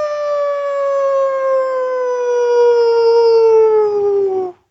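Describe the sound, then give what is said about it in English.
A person imitates an animal howl, holding one long, steady, loud tone that slowly sinks in pitch for several seconds before cutting off abruptly. “So if you want to try to do one up on your last howl, I think you could take that opportunity right now.”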